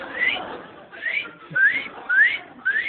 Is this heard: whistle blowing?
yes